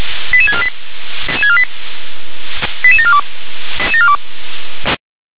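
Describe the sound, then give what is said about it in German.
Fire brigade radio paging tones from the Gera dispatch centre (Leitstelle Gera), alerting units including the Meuselwitz and Wintersdorf fire brigades to an apartment fire with people in the building. Four quick sequences of stepped electronic beeps play, each run of pitches rising and falling. They repeat about every second over steady radio hiss before cutting off abruptly. “19:24 Uhr, hier Leitstelle Gera mit Einsatz für den KPI Altenburg, der KPM Meuselwitz Groß, FBM Meuselwitz Feuerwehr Wintersdorf, GZB 3.4, Wohnungsbrand mit Personen im Gebäude, Leitstelle Gera, Ende mit Alarmierung.”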